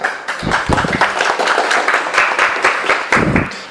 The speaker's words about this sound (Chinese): 那这个东西我们大家掌声欢迎一下。